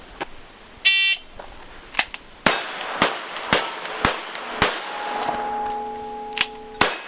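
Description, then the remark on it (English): A shot timer beeps, then a rapid string of sharp, loud six-shooter pistol shots rings out, each followed by the metallic clang of steel targets 15 to 20 yards away ringing afterward, in a simulated Old West gunfight. “Ozark's Jim makes a sweep with one of his six-shooter pistols, then pulls another”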